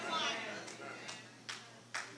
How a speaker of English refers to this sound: Thank you for the clap.